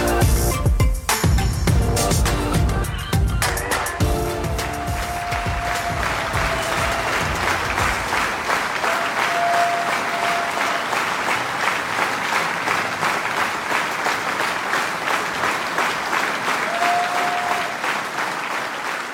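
Loud, sustained applause from a sizable crowd, dense clapping filling the whole stretch, with a few brief whistles or cheers rising above it near the start and later on.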